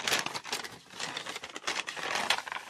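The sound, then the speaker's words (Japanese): A paper bag prize, taken from an envelope marked as the winner's prize, being opened: continuous crinkling and rustling for a few seconds, fairly loud, with irregular crackly bursts and no voices. “紙袋。 なん だろ う、はい、 これ開けていいの？”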